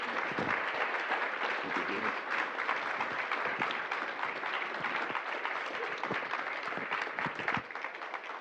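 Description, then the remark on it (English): Steady audience applause thanking veterans and protectors of the country fills the whole stretch, a dense, continuous patter of many hands clapping at an even loudness with no speech over it. “Let's thank our vets and our live protectors of our country today.”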